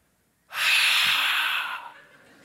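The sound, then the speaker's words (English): A voice imitates a single forceful breath onto people's faces in a prayer circle, a loud, airy exhale pushed out sharply and held for about a second before trailing off, with no talking. “And then again, I hear, and again, and he goes around the entire circle and he just breathes on all of our faces.”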